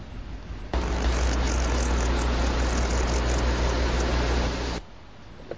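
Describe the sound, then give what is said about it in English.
Rocky the squirrel purring: a steady, low, buzzing rumble with a noisy hiss over it, running unbroken for about four seconds before stopping abruptly. No one speaks. “That little mewling noise, if you will, you just heard was Rocky the squirrel actually purring, thankful that a mommy cat took him into her fold.”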